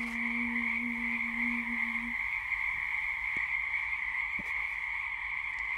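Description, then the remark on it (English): A dense frog chorus drones steadily throughout, a continuous high trilling buzz, with a lower croaking tone during the first two seconds and a few sharp clicks later. No one speaks. “The burst of a wren's song, frogs singing, sounds of waves, wind in the trees.”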